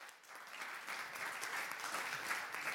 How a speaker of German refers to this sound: Vielen, vielen Dank für diesen sehr interessanten Vortrag. Gebt Ihnen nochmal eine Runde Applaus für unsere beiden Vortragenden hier.